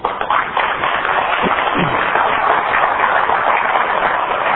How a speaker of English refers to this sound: We're applauding your plagiarism there.